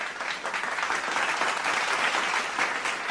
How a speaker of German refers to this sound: Gerne einfach mal klatschen. Wer ist für Katrins Story?